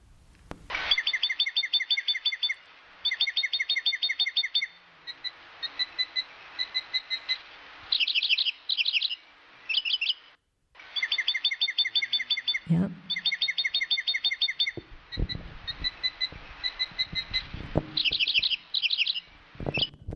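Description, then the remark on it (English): A northern mockingbird sings continuously and loudly, repeating each bright phrase several times in quick bursts before switching to a new one, cycling through its varied song. “This is the northern mockingbird. And listen to how, unfortunately, this isn't as long a recording as I would like, but listen to how this gentleman repeats his phrases.”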